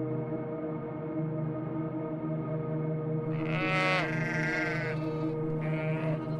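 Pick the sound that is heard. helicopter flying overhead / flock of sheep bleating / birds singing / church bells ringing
flock of sheep bleating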